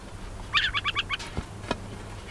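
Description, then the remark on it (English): A tiny brown and white adult owl, no more than 10 inches tall, rising on spindly legs, gives a quick, chattering warning call on spotting approaching people: five sharp, rasping chirps in a rapid, even series. A couple of faint clicks follow against a quiet outdoor background. “He rises up on a pair of spindly legs, sounding a warning call.”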